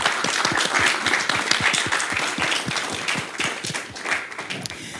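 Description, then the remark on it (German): An audience applauds the event's technical crew steadily, a dense crackle of many hands clapping at a fairly loud, even level for several seconds before easing slightly toward the end. “An dieser Stelle mal einen ganz großen Applaus”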